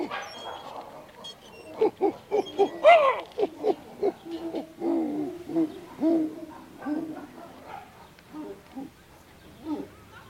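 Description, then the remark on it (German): Someone imitates a walrus with a run of hoarse, hooting barks and grunts, repeated in uneven bursts for about ten seconds, fairly loud. “Walrus kannst du ja schon.”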